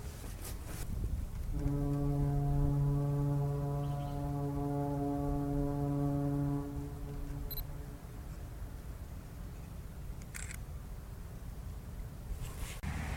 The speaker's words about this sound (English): It's early on a Sunday morning and a few cars are passing by, but the real story is that foghorn. Very thick fog on the Detroit River.